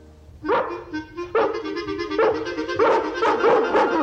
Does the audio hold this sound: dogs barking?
yes